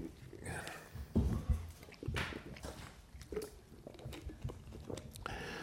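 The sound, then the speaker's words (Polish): A person sips and swallows water, with a few soft wet gulps and small mouth clicks spread over several seconds. It is quiet, with no talking. “On sobie łyknę.”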